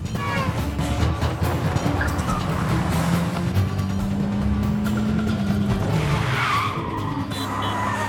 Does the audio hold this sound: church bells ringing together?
no